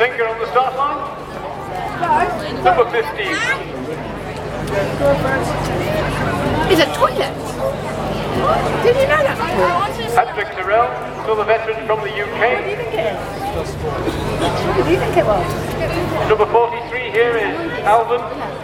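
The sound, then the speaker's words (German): A steady crowd murmur at a tin bath boat race: many overlapping voices chattering and calling out, with occasional louder shouts rising above the continuous babble. “Da haben wir die letzten Rennen dann noch so mitbekommen. Und diese ganze Atmosphäre, das klang dann so ein bisschen so.”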